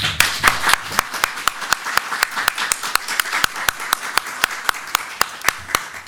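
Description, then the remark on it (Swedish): An audience applauds steadily for several seconds, thanking the panelists after a panel discussion at an event sponsored by Stiftelsen Rättsstatens vänner, with sharp, evenly spaced claps standing out above a dense wash of clapping hands. “Jag tycker vi tackar panelisterna med en varm applåd.”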